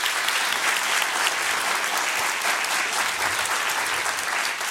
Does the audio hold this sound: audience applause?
yes